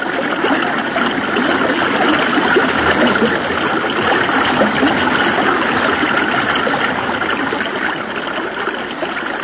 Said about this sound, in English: When I let go of this limb, I'll let the current take us downstream.